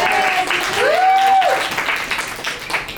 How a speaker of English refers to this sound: We can give her another round of applause.